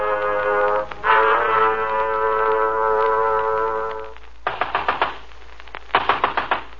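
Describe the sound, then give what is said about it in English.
After a sustained droning tone fades, two bursts of loud, heavy pounding on a door follow, each a rapid series of about five thuds, with a brief pause between. “Okay, I'm coming. Open up, open up. Hello, come on, open up. Next time, why not bring along an axe?”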